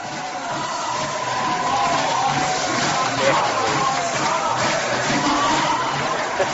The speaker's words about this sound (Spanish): Gritos, música, aplausos.